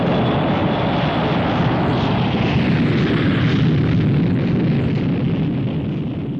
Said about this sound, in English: Also flying its final mission during the year was the giant XB-70 supersonic research plane.